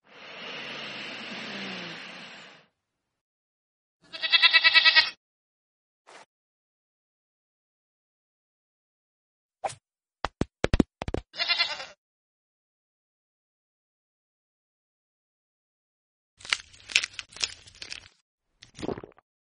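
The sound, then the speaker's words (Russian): A goat gives a single short, quavering bleat, clear, amid scattered clicks, knocks and a breathy rushing noise, with quiet gaps between. “Спокойной ночи, дорогая козочка.”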